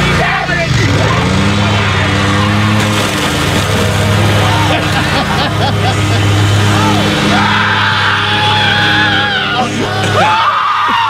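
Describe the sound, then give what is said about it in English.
A lawnmower engine drones loudly and steadily as a father revs it to run over video games, while his son yells and shrieks excitedly over it for the whole stretch, running away from the lawnmower; the engine note cuts out near the end. “His dad revs the engine. And apparently he knows his dad because he immediately runs away from the lawnmower.”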